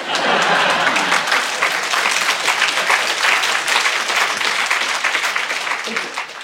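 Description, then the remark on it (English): A crowd applauds steadily and loudly, a dense wash of many hands clapping that holds at an even level for several seconds before easing slightly at the end. “I think this is applause from above.”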